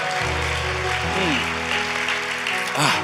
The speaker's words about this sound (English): Come on, somebody, you gotta clap after the word.